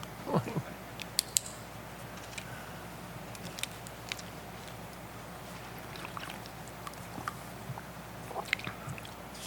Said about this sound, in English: As it says in Joel 2, verse 1, if you want to turn there, Joel 2, 1, while I get a drink.